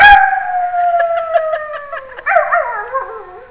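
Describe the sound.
A long, loud werewolf-style howl rises sharply, then slides slowly downward in pitch, with a wavering, yelping break near the end. It stands alone, with no talking.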